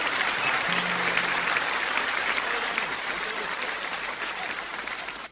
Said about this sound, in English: Well deserved applause there